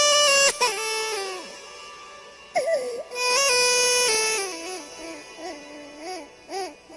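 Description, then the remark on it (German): A newborn baby wails loudly in long, strained cries with a brief gasp between them, then the crying eases into shorter, wavering whimpers toward the end. No one speaks. “Und das erste Mal erheben wir unsere Stimme.”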